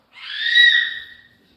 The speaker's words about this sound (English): If I could scream that loud, I would.